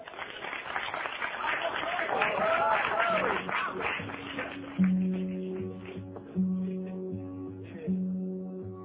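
A crowd applauds and cheers steadily for several seconds, then the clapping thins out as a guitar begins, strumming three ringing chords at roughly even intervals.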